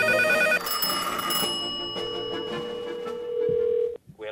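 An electronic telephone ring of bright, layered tones shifts into a long, steady held note that cuts off abruptly near the end, followed by a brief faint sound.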